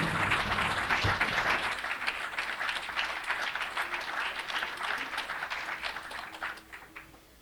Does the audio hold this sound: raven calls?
no